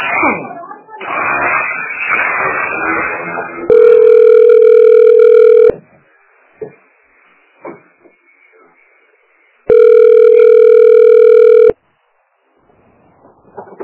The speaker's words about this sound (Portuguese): eu não atendo telefone.